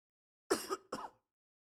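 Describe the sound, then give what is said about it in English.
A man coughs twice in quick succession, fairly loud, each burst short and rough like a throat-clearing hack, followed by silence. “I'm coughing again.”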